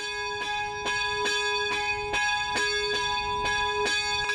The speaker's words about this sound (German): Das Trauergeläut, das du gerade gehört hast, erfolgt in einem ganz besonderen Dreiklang. Dafür wurde der Klöppel zweimal vorne und einmal hinten an der Glocke angeschlagen.